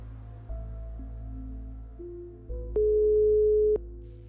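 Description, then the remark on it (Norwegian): A short series of electronic dialing tones steps upward, then a click and one steady, loud ringback tone lasting about a second before another click, as journalists place an outgoing telephone call to a girl's father. No voices are present. “Vi klarer senere å finne ut hvem som er faren til denne jenta, og ringer ham for å høre om han kanskje kan hjelpe oss å belyse denne saken.”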